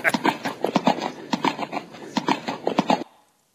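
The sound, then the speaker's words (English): Horse hooves clip-clop in a steady, brisk rhythm as a horse travels toward La Belle, Quebec, a quick run of clear knocks lasting about three seconds before stopping abruptly. “Well, horse, we are getting close to La Belle, Quebec.”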